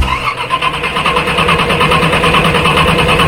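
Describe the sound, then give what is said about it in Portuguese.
A car engine cranks over and over without catching, a loud, rhythmic churning of the starter that keeps going for a few seconds with no voices. “Dificuldade para ligar o carro? E demora para ligar o motor?”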